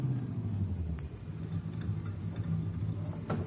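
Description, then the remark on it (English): A car engine rumbles low and steady as a taxi pulls up, with a few faint clicks and rattles over the drone and no voices. “There's a hack coming”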